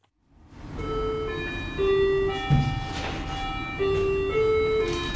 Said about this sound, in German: Die Türglocke, die Kundschaft ankündigt, klingelt im Minutentakt.